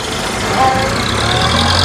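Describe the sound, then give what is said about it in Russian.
A car engine runs steadily throughout, a loud, continuous rumble with a broad noisy hiss and a low droning hum that firms up toward the end. “Посадили митрополита на автомобиль и повезли куда-то.”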